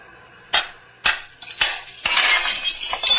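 A factory window is struck with a rock: three sharp, hard knocks, then a loud shattering crash as the pane breaks, followed by bright tinkling of falling shards, with no one talking.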